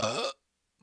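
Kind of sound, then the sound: human body sound, burp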